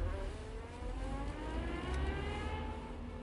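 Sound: car engine revving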